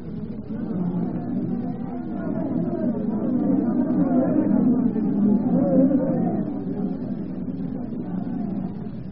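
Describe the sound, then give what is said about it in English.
A large crowd rioting outside a palace shouts and clamors in an unbroken, churning roar of many overlapping voices, steady and fairly loud throughout, swelling slightly in the middle, with no single voice standing out. “The crowd, madame. They are rioting outside the palace.”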